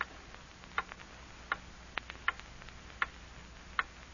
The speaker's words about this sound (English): Hear that clock?